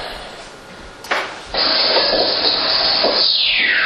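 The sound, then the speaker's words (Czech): A recorded whistler, a low-frequency electromagnetic wave played from a computer: steady crackling static hiss, then near the end a single smooth tone gliding downward in pitch, fairly loud against the noise, with no voices. “To je ono, ten zvuk směrem dolů, to je hvist.”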